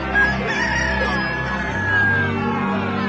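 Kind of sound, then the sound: bird, rooster crowing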